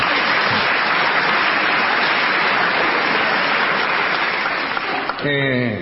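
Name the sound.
concert audience applause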